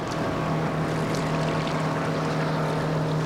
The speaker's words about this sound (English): Water sloshes against the shoreline as boats crisscross in the middle of the lake.